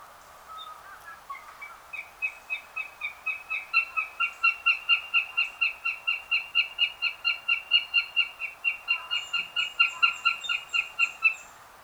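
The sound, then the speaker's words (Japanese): A northern goshawk gives a long, steady series of loud, harsh cackling calls, about thirty rapid notes in an even rhythm, clear with no other sounds. “しかし今では明治神宮ばかりではなく、都心の大型の緑地数箇所でオオタカが繁殖しています。”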